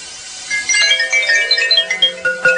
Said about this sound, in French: Dans la brume de l'aube tournoie le son de la cloche.